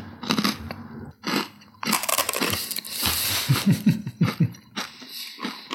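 Loud, dry crunching as someone bites and chews a crouton topped with whipped lardo, a run of irregular crisp crackles with brief pauses, and a few low murmured sounds near the end.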